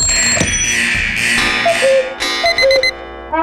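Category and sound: household object, alarm clock ringing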